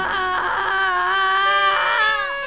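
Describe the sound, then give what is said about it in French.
A baby screams from the back seat of a 4L car in one long, loud, high-pitched wail that wavers and bends in pitch, continuing without a break for a couple of seconds with no talking. “Soudain de la banquette arrière jaillit un hurlement d'enfer.”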